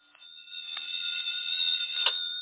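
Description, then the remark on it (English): A telephone rings at 7 o'clock with a steady, shrill electronic tone that holds without a break, clear, with no voices. “At 7 o'clock, my phone rang.”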